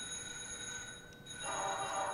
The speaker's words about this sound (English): You've got a steamboat whistle. Birds, and a doorbell,